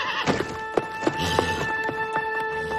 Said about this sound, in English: The horse raises on its back legs and then trots away.